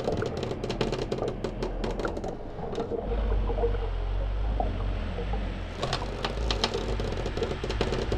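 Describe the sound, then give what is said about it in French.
A small rowboat towed by a penguin moves through water: quick splashy dips and lapping that ease into a low steady rumble midway, then pick up again. Moderately loud, with no voices. “Ina part sur une barque tractée par son pingouin.”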